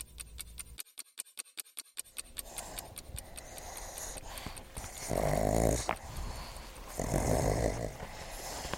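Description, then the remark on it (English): Pugs playing, play-bowing and sniffing each other, snort, snuffle and grunt, opening with a quick run of rhythmic clicky snuffles, then two louder, rough, raspy snorting bursts with scrabbling in between. No one speaks. “The pugs are play-bowing each other, sniffing each other's butts, making noise as normal.”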